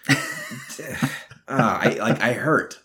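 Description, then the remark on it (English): A person with the flu coughs and clears their throat in a few rough, voiced bursts, followed by a longer stretch of strained, throaty vocal sounds. “My flu just came back and now I'm coughing because I said it out loud.”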